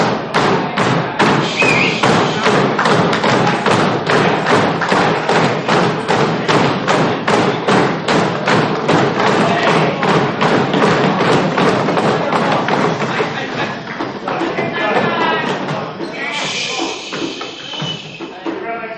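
Loud, rapid knocking on a door, a long run of sharp, closely spaced thuds pounding steadily for over ten seconds before easing into softer, irregular knocks with a faint ringing tone.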